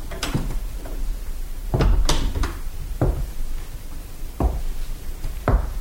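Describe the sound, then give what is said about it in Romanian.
A series of sharp wooden thuds and knocks, about six in all, spaced irregularly, like a door being pushed shut and bumping into its frame, with no voices. “Închide ușa.”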